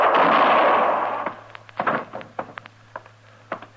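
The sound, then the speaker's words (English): A single loud shotgun blast, fired at a man, booms and rumbles away over about a second, followed by a scattered run of sharp knocks and clatters over a low steady hum. “My scatter gun tore him half in two.”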